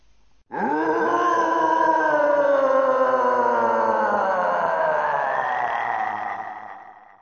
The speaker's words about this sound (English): This is the Guardian Roar 1, okay? This is it in Japanese. This is the first time the Guardian Roar, which I can only assume is when whatever Guardian this is materialises and is first seen, okay? So, Guardian Roar 1, this is it in Japanese.